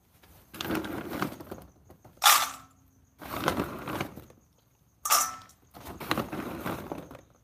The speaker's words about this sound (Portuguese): Deixa eu botar uma ração pro cachorro aqui, peraí.